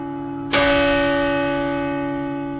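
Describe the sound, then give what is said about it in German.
A single strike of a large church bell, loud, followed by a long, rich ringing tone that slowly fades. A faint steady hum sits underneath, and no one speaks. “Und weil eine grosse Glocke lauter ist als eine kleine, heisst es eben, an die grosse Glocke hängen.”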